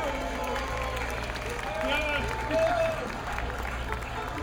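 A crowd applauds steadily with dense, continuous clapping, joined by a few scattered cheers and whoops that rise briefly in the middle before the clapping carries on.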